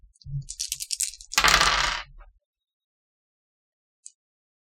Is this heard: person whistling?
no